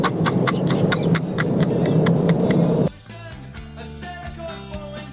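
A city bus engine, on route 64 driving along Via Nazionale, rumbles steadily with rattling clicks for about three seconds, fairly loud, then cuts abruptly to quieter, sustained tones. No one speaks.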